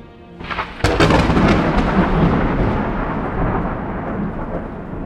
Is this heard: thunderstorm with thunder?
yes